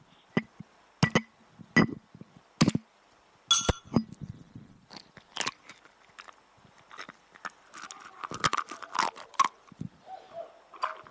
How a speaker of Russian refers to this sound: Слышишь? Да. Я разбил яйцо и выложил его в блюдечко.